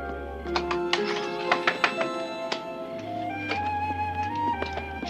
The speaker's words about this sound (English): Stevie walks up to a friend's house and knocks on the door.